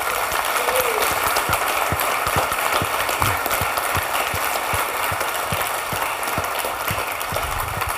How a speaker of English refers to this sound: So just a round of applause, please, for the volunteers every year for Oshkosh.